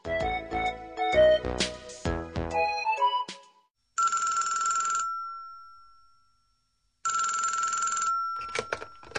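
A telephone rings in two long, steady bursts separated by a pause, preceded by a quick tinkling melodic phrase, loud with no one speaking.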